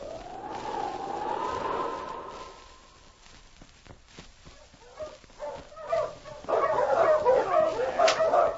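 A long, wavering howl-like tone fades out, followed by a few scattered sharp yips, then a burst of loud, rapid barking near the end from Yukon King, Sergeant Preston's wonder dog, in the Yukon.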